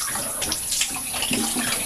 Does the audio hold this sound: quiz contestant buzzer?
no